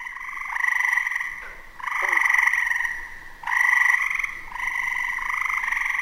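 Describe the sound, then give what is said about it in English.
A Fowler's toad calls in early summer, giving a series of loud, nasal, buzzing 'waaah' calls, each lasting a second or two, repeated about four times with no talking. “By early summer, we may hear cricket frogs and this fowler toad.”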